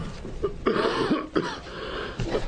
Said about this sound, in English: I'll see if I can stop coughing so we can hear you.